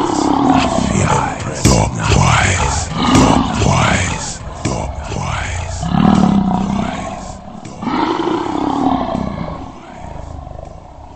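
A lioness roars loudly in a series of deep, rumbling, drawn-out bellows that rise and fall one after another with only brief pauses between them.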